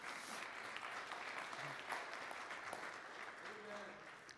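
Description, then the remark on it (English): A church audience seated in the pews claps for a man in a steady, dense wash of applause lasting several seconds, with faint voices murmuring underneath before it begins to thin out. “Can you give him a hand clap?”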